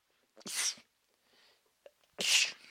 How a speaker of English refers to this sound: Oh, I was hoping the sneeze gods would call me, and they did.